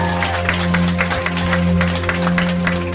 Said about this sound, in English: Подари Иисусу аплодисменты. Give applause to Jesus.